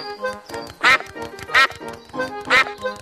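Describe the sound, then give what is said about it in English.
Mrs. Duck and her friends quack loudly, three sharp bursts spaced roughly evenly over a few seconds, with fainter chatter of other quacks between them. “It's Mrs. Duck and her friends.”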